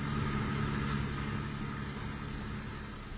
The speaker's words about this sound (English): As a member in good standing of the Safe Drivers Club, he is trying to navigate the busy traffic in safety, while at the same time listening to his daughter